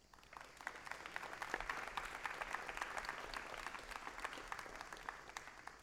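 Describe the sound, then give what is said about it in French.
An audience applauds its musicians steadily, a dense wash of many overlapping hand claps with sharp individual claps poking through, holding at a fairly even, moderate level throughout. “Donc, on va essayer de faire cet exercice-là et je vous demanderai d'applaudir nos musiciens.”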